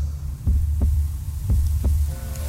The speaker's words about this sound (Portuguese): Ouça o som das águas. Do vento. Das matas. Da chuva. Todos esses sons têm uma só batida, a do coração.